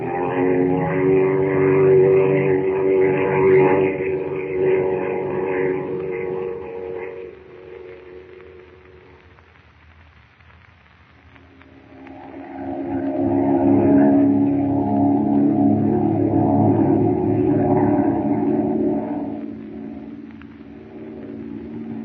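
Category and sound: vehicle, airplane engine drone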